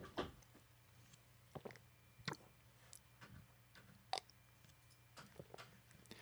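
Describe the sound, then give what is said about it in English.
Quiet munching and sipping: scattered soft crunches and wet mouth clicks at an uneven pace, with no one talking. “Just sipping and munching.”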